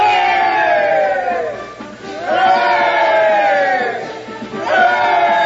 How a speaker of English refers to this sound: Hey there! Look at the dandy mechanics! Give them three cheers, boys! Three cheers for the dandy mechanics!